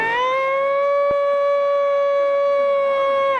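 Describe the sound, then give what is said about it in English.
A person imitates a wolf howl: one long, loud, steady call with a rich harmonic tone, rising slightly at the start and held at an even pitch for about three seconds before trailing off. “Can you do a wolf call for me?”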